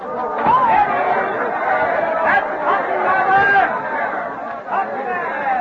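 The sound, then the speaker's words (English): A dense murmur of many voices talking at once, a crowd gathered below in Boston heard as a window is opened, a steady crowd babble with occasional raised tones rising above the hum, continuous and fairly loud throughout. “Master Chairman, may I announce that to the crowd below?”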